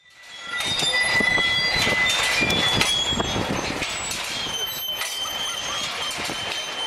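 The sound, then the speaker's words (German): Heureka, Jean Tinguely's giant kinetic sculpture, nearly half a century old, at Zürichhorn in Zurich, squeaks and rattles steadily. Shrill, high-pitched metallic squeals ride over a loud, continuous clatter of clanking parts. It holds at full volume throughout, with no voices. “Kein anderes Kunstwerk auf der Welt tönt, quietscht und scheppert wie sie.”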